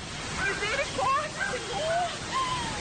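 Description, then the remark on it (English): A steady, loud roar of rushing floodwater in the streets of Petropolis, Brazil, after heavy rainfall, a dense churning wash strong enough to push vehicles along, with faint, indistinct voices surfacing now and then beneath it. “The current, so strong, it pushed vehicles along streets like toys.”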